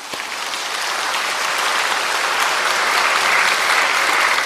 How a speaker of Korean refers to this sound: 이제 박수 한번 쳐드리십시오.